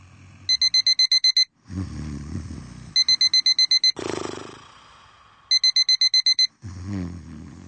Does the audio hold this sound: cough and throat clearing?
no